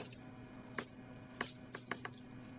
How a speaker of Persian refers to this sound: او روی میز سکه ها رو منظم روی همدیگه میچینه. بلند میشه و هنگام خروج سکه ها رو در مشتش میبنده.